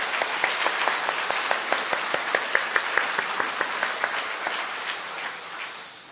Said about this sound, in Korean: 감사한 마음 전합니다. 박수 한번 주십시오.